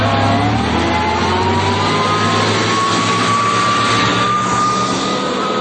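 A bus engine drones loudly and steadily, its pitch climbing as it revs up and pulls away. No voices are heard.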